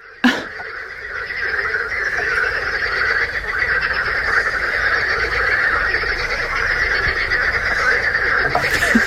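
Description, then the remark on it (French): A dense, continuous chorus of croaking frogs at a small lake in the evening, many voices overlapping into a steady trilling drone that holds at an even, fairly loud level throughout, with no talking. “Alors moi, j'ai écouté, j'ai apporté des chants de grenouilles.”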